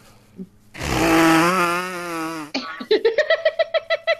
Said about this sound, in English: Hang on, let me get a note. See if I can get a good nose blow here.